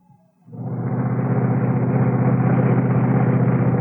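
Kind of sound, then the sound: vehicle, car engine running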